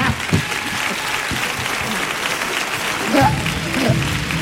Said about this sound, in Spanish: ¡Fuerte el aplauso para nuestros actores!